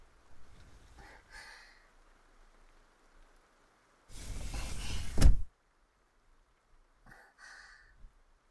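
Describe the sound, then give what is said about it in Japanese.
A window slides shut against the rain with a steady rolling rumble lasting over a second, ending in a sharp knock as it meets the frame. Faint soft rustles come before and after; no one speaks. “窓も閉めとかないとダメですね。”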